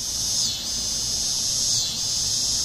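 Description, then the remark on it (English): A dog day cicada's mating call: a loud, continuous high-pitched electric buzz that swells and eases in slow waves, with no voices. “It's the mating call of dog day cicadas, loud enough to rise above the drone of air conditioners, and so persistent and widespread that people who hear can hardly miss it.”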